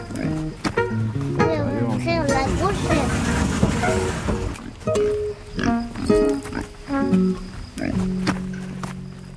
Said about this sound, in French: Ah, il y a des petits cochons, là.